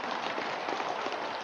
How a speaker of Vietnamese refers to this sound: Một tràng pháo tay tặng cho con.